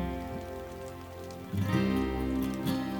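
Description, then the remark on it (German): Steady rain with drops splashing into a puddle, a soft continuous patter swelling a little louder halfway through, with a few distinct plops standing out. “Mit jedem Regentropfen, der in die Pfütze klatscht, verschwimmt dein Spiegelbild ein wenig.”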